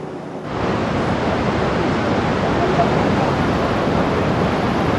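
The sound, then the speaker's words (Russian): A loud, continuous roar of rushing water as a tidal bore, formed when huge masses of water are forced into a narrow river channel, surges up the river; it swells in after a brief quieter moment and holds steady throughout. “в результате чего огромные водные массивы, попадая в узкое русло, формируют приливную волну.”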